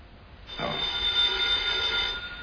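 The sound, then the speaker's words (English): A telephone bell rings in one sustained, jangling burst lasting a second or two, fairly loud, with no voices over it. “You want it on the phone, Judge Simmons.”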